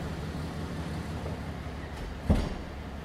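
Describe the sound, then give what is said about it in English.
A door shuts with a single dull thump about two-thirds of the way through, over a steady low rumbling hum that runs the whole time. “I better close this door here.”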